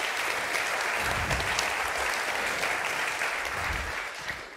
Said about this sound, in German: Einen dicken Applaus für euch.